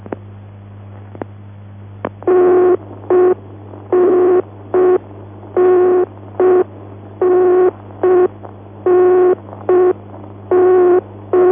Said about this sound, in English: Equipment is engaged, you will hear an engaged tone which may sound like this.